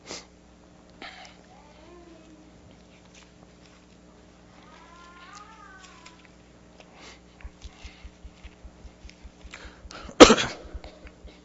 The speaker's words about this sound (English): That cough is amplified so much more every time I cough.